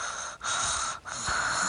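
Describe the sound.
A person imitates quiet snoring: three soft, airy, breathy snores in quick succession, separated by brief pauses, with no talking.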